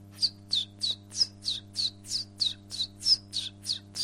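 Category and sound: bird, common chiffchaff singing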